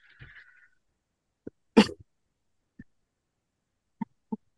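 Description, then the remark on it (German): A single sharp, loud cough, preceded by a faint throaty noise and followed by a few small clicks and throat sounds in otherwise quiet surroundings. “Es wird viele dieser Hustunterbrechungen geben.”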